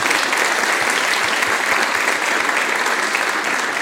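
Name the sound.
applause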